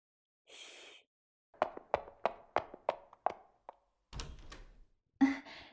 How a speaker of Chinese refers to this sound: 那你等一下啊，我过来给你开门。